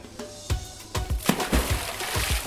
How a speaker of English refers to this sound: But when the barman noticed the gentle stream splish-splashing down the concrete stairs, he appeared strangely annoyed, using expletives freely.